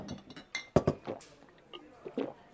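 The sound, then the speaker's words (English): Glasses clink together a couple of times in quick succession, bright, in a toast in a bar, amid softer tableware clatter and a faint murmur, with no voices. “I raised my glass and whispered, "Here's to you, Chief.”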